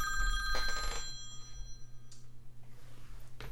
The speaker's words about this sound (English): I got a phone call coming in here. Hold on.